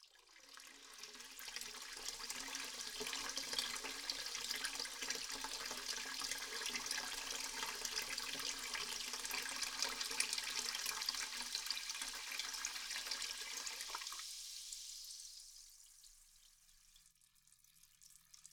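Steady rush of hot water pouring into a tub on a treatment table for a carbonated bath, a dense hissing stream that runs continuously for about fifteen seconds before stopping abruptly, leaving faint trickles and drips.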